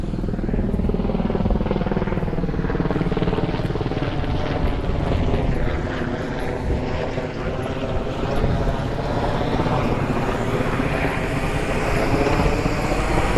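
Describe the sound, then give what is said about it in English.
A police helicopter roars loudly and steadily overhead, heard from a street intersection, its rotor throb and engine drone filling the whole recording without letting up. “And we also have a police station, a police helicopter. Sorry.”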